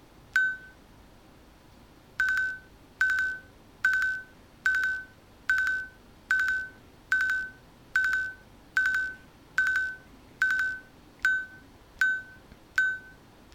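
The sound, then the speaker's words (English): A series of about fourteen short, bright electronic beeps at a steady pitch, evenly spaced roughly once per second after an opening chirp, from a tap-to-buzz-time screen feature counting out the time in groups of five around 12 o'clock, with no voices. “So that's why it was going that repeated beep”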